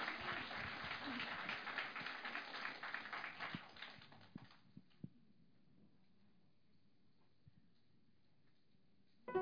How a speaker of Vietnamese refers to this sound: Vì vậy, xin quý vị cho một tràng pháo tay một lần nữa